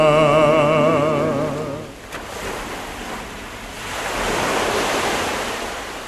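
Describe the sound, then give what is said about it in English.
Sea waves crash against rocks on a coastline in a hissing wash that recedes and then surges again, while a wavering tonal hum at the start quickly fades away. “Contemplate the sea of stories that beats against the rocks.”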